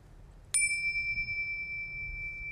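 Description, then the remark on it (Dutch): A single clear bell strike rings out near the start, its bright, pure tone sustaining and slowly fading over a soft low background hum. “Dus dan nodig ik de bel 3 keer uit.”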